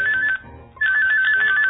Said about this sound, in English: New York, Monday, 1st of July, 10 o'clock p.m. The night is cold at the Big Apple. A cell phone rings somewhere in Manhattan.